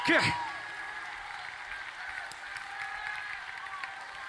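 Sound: audience clapping hands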